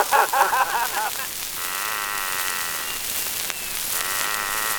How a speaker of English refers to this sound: What's that noise? Why, that's an Irish nightingale up in number 4, snoring.